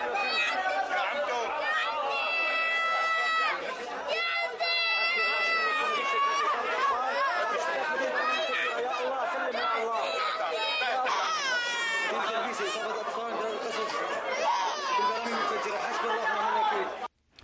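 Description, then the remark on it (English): A young child being treated in a hospital wails and sobs loudly and almost without pause, followed by the higher, thinner cries of a small infant with an injured foot, while adult voices murmur and chatter. “And then the gut-wrenching sound of a young child being treated in a hospital, followed by the sound of a small infant with an injured foot.”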